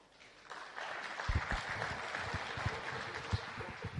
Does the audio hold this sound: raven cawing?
no